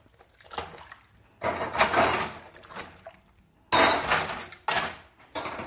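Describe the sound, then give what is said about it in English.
Dishes and cutlery clatter and clink loudly in hurried, uneven bursts, with a few sharp impacts and short pauses between them, as if being washed in a rush. No one speaks. “The interesting thing is too, is when you become aware of it, when you become really in the present moment, you'll probably end up having the cleanest dishes possible, because it's not just a rush job of such as this.”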